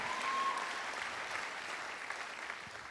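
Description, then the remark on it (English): Sustained applause from a large audience applauding the Lord, a dense, steady wash of many hands clapping at once with no individual claps standing out, holding at a fairly even loudness throughout. “Because here's the thing, the Bible says there, absolutely, let's applaud the Lord.”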